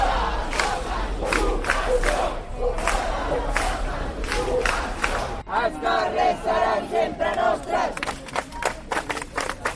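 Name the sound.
protest crowd shouting chants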